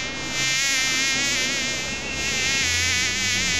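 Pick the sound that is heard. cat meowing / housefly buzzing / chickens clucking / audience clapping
housefly buzzing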